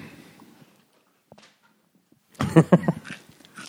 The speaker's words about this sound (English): don't chew on the podcast. You and your pita chips, just take a walk.